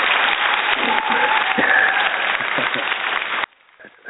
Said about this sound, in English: I appreciate the kind words and the applause.